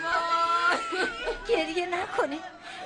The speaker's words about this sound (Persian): گریه نکنی.